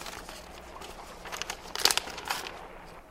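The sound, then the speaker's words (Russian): Paper crinkles and rustles as a heavy registered mail parcel, taken from a mail bag, is unwrapped, with a run of crisp, uneven bursts that grow louder toward the middle and then fade. No one speaks. “Заказной пакет, тяжелый.”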